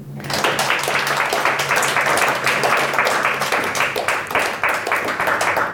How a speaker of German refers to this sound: Ich bitte um einen herzlichen Applaus